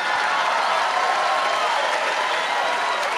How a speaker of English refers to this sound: Now the old people are applauding.